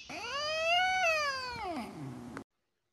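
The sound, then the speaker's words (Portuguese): A single drawn-out cat meow, loud, rising then sliding down in pitch over about two seconds before cutting off, with no one talking. “E aí, gatinha? Cadê?”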